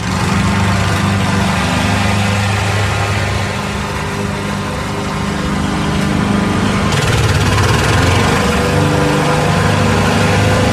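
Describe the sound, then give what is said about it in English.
A lawn mower engine runs steadily, a loud continuous droning rumble with a rough buzzing edge that shifts slightly in pitch partway through, with no voices. “The same kind of annoyance. That was a lawnmower.”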